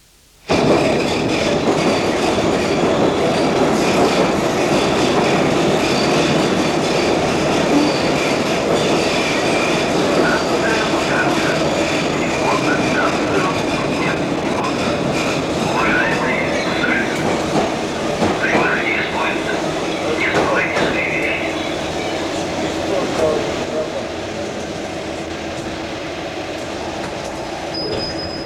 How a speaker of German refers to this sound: So hört es sich an, wenn in Moskau die Metro fährt, täglich von 6 Uhr morgens bis 1 Uhr nachts.